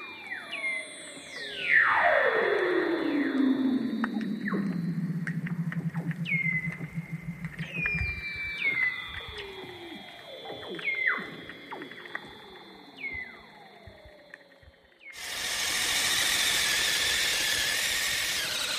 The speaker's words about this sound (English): I asked the seal researchers if we know what these calls mean, and no, we don't.